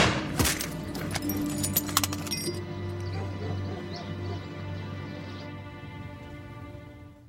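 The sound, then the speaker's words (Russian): Several sharp, loud shots from a Browning pistol crack in quick succession near the start, then fade into a long, ringing decay over a steady low drone. No one speaks. “В его руке браунинг. Выстрелить Семчук не успевает. Чекан стреляет первым.”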